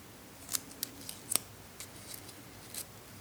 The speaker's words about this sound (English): You might be able to hear the leaves rubbing or snapping. You might be able to hear the leaves rustling as you roll them in your hands.